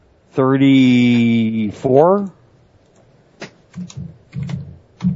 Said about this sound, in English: Do the Googles. I can hear you typing. Wikipedia is your friend.